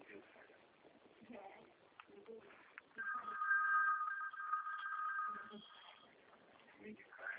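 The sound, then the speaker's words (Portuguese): A telephone rings at the caller's end during a phone call, with one steady, high electronic tone lasting a couple of seconds, louder than the muffled, thin-sounding voices talking before and after it. “Não, não é porque eu estou no telefone. Alô? É que Tudo bem. tocou aqui.”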